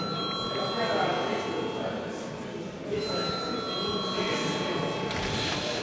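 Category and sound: signal or alarm, parliament chamber bell ringing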